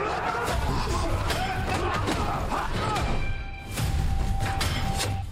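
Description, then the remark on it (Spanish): A loud, chaotic stretch of fight sound effects: rapid punches, heavy thuds and crashes piling over one another, with a brief dip before the blows surge back, and muffled shouts mixed in. “Madre mía, se escuchan ahí puñetazos y de todo.”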